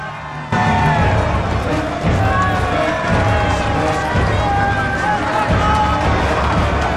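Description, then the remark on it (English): A large crowd lining a street in Nottingham as a royal procession passes, cheering and shouting to see the king in a loud, continuous roar of overlapping voices and whoops that swells in just after the start and holds steady throughout. “Now, the royal procession makes its way through the streets of Nottingham, where the crowds have come out to see him.”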